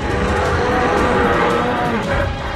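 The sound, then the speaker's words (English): A lion, turning to face a bear in a fight, roars deep and loud, one sustained, rough bellow filling the whole moment with a rumbling, growling texture. No one speaks. “He turns to face the bear and bellows a huge roar to send a clear message: this fight is to the death.”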